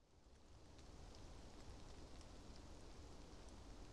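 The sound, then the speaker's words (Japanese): Steady rain falls at night in a park in a dense, continuous hiss with soft pattering drops, moderately quiet and unbroken, with no voices present. “雨も降ってるし、ずっとここにいるわけにはいかないんですけど。”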